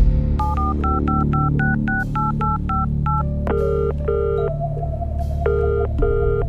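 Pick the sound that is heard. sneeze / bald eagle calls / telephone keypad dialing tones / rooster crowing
telephone keypad dialing tones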